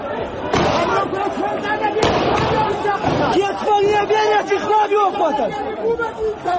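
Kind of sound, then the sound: impact, gunfire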